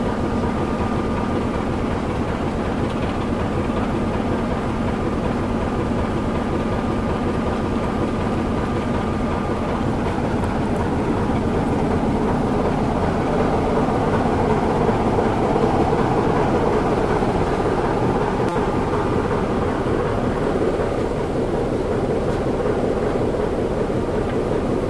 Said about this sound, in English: there we go, the steam loco has arrived. I guess the diesel one will probably head off now.